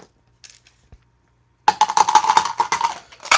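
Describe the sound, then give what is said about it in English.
A brief faint rattle, then a sudden loud burst of dense, rapid clattering as several dice are rolled and tumble across a hard surface to pick a word from a numbered list, with no talking. “One last word here, and the roll of the dice gives us 1, 3, 1, 5, 4.”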